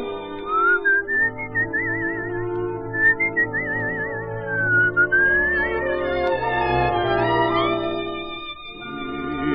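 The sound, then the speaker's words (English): A gentle whistled lullaby melody, slow and sustained with warbling vibrato, floating over soft instrumental accompaniment, clear throughout with no talking. “Listen to the whistling gypsy's lullaby.”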